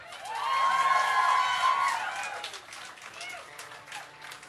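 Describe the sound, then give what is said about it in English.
An audience, urged to clap louder and longer, claps and cheers loudly, with high whoops and shouts over dense, steady applause that swells at first and then gradually thins out. “I think you need to clap a little louder and a little longer.”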